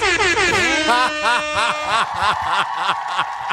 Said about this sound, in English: Found the air horn for that guy that didn't want it.